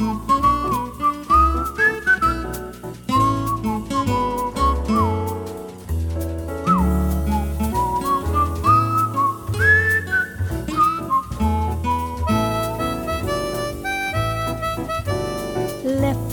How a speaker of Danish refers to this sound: det er mig, der fløjter og spiller guitar.